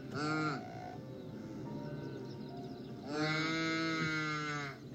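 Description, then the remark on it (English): Two loud, drawn-out nasal calls from a saiga antelope, deep and moo-like, one short at the start and a longer one near the end, separated by quieter low grunting. “that's the saiga antelope”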